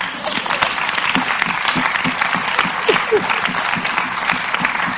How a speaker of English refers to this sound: Clap.